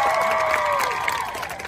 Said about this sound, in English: I do not deserve applause.